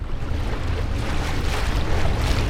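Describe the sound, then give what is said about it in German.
Steady, soft rush of water and wind from an electric tour boat, converted from diesel, gliding along the Spree river in Berlin, with a low continuous hum underneath and no engine roar; the gentle wash stays constant throughout. “Es klingt fast wie ein Segelschiff.”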